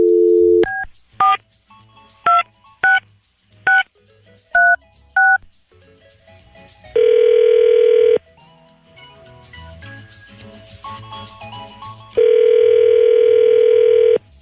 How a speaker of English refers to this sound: All right, here we go. Okay. Dialing at random.